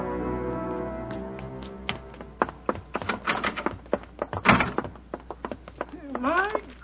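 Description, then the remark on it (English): A rapid clatter of wooden knocks and thumps builds to one loud, sharp door slam, followed by a few more bangs, with vocal sounds heard at the start and end. “Door slamming all over the place.”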